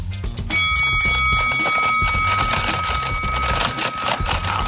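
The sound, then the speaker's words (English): A bright metallic bell strikes once to start a boxing round in a game of Rock'em Sock'em Robots played against Oscar De La Hoya, ringing on with a sustained, fading tone over a dense, busy background of music or crowd-like noise. “Do you have a bell that could be played? Yep, I got a bell.”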